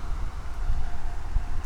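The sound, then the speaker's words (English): Steady wind buffets a microphone, producing a constant low rumbling roar with gusty thumps and a broad hiss that never lets up across the short clip. “It wasn't this windy at my house.”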